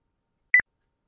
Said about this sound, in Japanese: そして、唐突に三分間が終了。電話がプツッと切れてしまった。